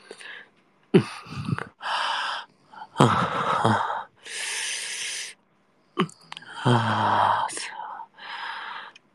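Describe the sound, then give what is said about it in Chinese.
A voice imitates a cat's purr in several rasping, breathy bursts, interspersed with airy whispered breaths and short pauses, fairly loud and intimate. “这个呼噜的声音有点太大了”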